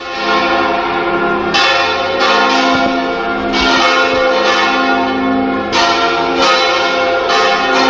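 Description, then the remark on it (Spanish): Large bells of the Gothic Burgos Cathedral in Burgos peal continuously and loud for the cathedral's eighth centenary, with fresh strikes every second or so layering over long, shimmering hums that ring on without pause. “Venga, vamos a escuchar esas campanas de la Catedral de Burgos en su octavo centenario que se celebra hoy.”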